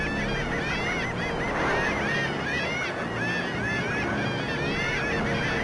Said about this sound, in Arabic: تقوم طيور النورس بالصراخ وإطلاق الأصوات المنبهة لنوع آخر من طيور الشاطئ، وهي البجع، وهي تدعوها للمشاركة في هذه الوليمة.